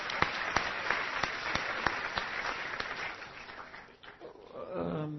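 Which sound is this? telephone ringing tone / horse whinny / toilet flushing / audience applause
audience applause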